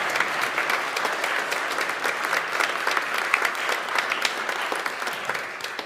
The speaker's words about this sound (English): Can we have one more round of applause for all the folks that were, yeah.